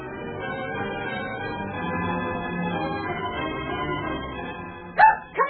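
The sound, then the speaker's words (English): A dog barks twice in quick succession near the end, loud and sharp, after several seconds of a steady, murmuring background. “why you brought that silly dog along.”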